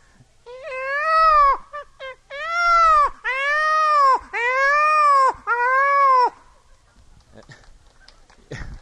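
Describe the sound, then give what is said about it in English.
A peacock's loud, wailing calls repeat in quick succession, about six drawn-out, high-pitched cries with short breaks between them, followed by a few seconds of near quiet. “It's a peacock.”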